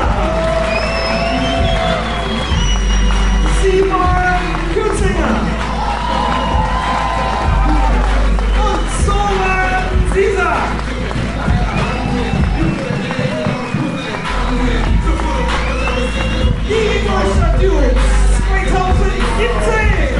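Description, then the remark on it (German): A dense, roaring crowd noise fills the whole stretch, with cheering, whoops and shouts rising over a constant loud wash, plus scattered voices and short sharp bursts throughout. Stadium spectators applaud as the Ingolstadt Dukes' starting defense is presented. “Gerade wird die Starting Defense der Ingolstadt Dukes präsentiert unter tösendem Beifall der Zuschauer.”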